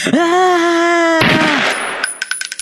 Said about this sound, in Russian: Ты в пролете, пистолет в твоей руке. Жми на курок, ман